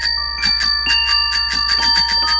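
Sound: tricycle bell ringing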